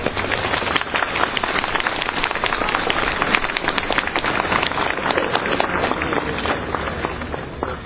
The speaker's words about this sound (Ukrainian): Також до нас, якщо приєдналися волонтери з лікарні «Небосійці МОТО», давайте привітаємо їх оплесками.